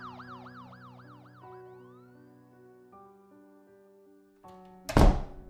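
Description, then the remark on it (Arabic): Police car sirens wail in quick repeated rising and falling sweeps for the first couple of seconds, then fade into sustained droning tones before a sudden loud thump near the end. “سمعت صوت سيرينة عربيات الشرطة.”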